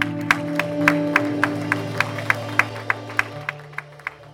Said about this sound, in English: Oh, praise the Lord. Come on, give the Lord a clap offering there.